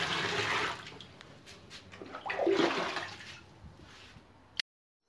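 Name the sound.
water running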